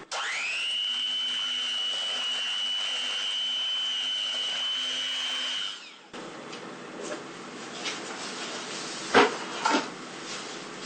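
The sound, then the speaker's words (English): An electric whisk mixing all the batter ingredients, building from low to very high speed, gives a steady, high-pitched motor whine for about six seconds, then cuts out into softer scraping and clinking with a couple of sharp knocks near the end. “Okay, so now we're going to whisk all our ingredients together for about 10 minutes until the mixture gets nice and fluffy and light, building from a low speed to a very high speed.”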